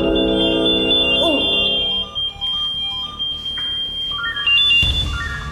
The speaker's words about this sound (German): Jetzt klingelt hier was? Jetzt sind Probirufe. Einmal in der Woche wird getestet, ob unsere Funkmeldeempfänger funktionieren. Und jetzt fangen gleich alle Funkmeldeempfängers piepsen an.